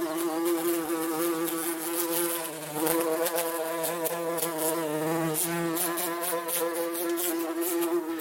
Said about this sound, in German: In den vergangenen Wochen konnten wir, wie jedes Jahr an warmen Frühlingstagen, wieder die fleißigen Bienen bei ihrer Arbeit beobachten.